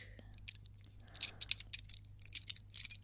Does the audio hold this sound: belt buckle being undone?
yes